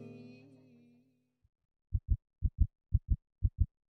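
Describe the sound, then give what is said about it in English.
A steady heartbeat thumps in low lub-dub pairs, four double beats in an even rhythm, following a fading musical tone and a short silence. “A ticking time bomb, heart beating love bomb.”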